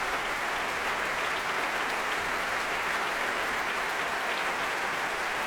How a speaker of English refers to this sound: And back he comes to acknowledge the applause. The orchestra rises to its feet.